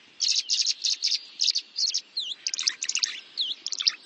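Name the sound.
tree swallow calls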